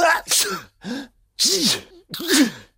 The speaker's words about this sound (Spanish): Esto significa que se acercan estornudos. Estos. Tenemos algunos efectos de estornudo, de por ejemplo este. Bueno, hay muchos. Estos tres modelos.